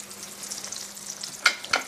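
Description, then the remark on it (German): Steady, hissing sizzle of a sauce frying in a pan on a back burner, with two sharper pops and crackles breaking through near the end. No voices. “Kannst du da ein bisschen zurückschalten hinten bei der Soße?”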